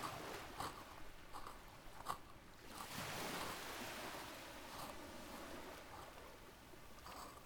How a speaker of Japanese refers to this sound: そうでしょ、気持ちいいでしょ。波の音とかもこの方がしっかり聞こえてるんじゃない？